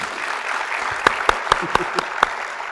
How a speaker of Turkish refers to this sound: Bir alkış alalım mı